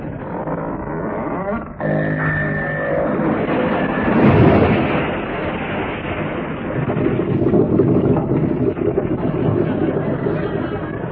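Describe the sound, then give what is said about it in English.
A homemade frigate, the PRMS Mango Chutney, grinds down a slipway at her launch with a deep rumble and a brief high scraping whine, then hits the water in a heavy surge that churns on loudly as she sinks. “Look, the ship's moving down the slipway. She'll fall into the water.”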